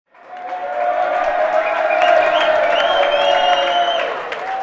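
A crowd applauds and cheers steadily, with dense clapping and rising whoops and shouts held at a loud, even level throughout.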